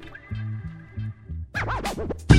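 A hip-hop track kicks in with a pulsing low bassline, then rapid turntable scratches sweep up and down over it before a loud hit lands at the end.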